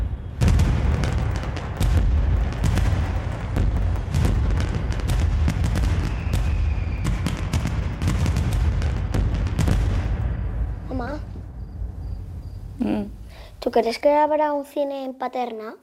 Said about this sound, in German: Ein Feuerwerk am Nachthimmel, vor der verlassenen Bahnstation.